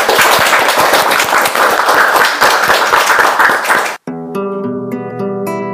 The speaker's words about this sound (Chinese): 谢谢，非常精彩，我们先给一些掌声给他。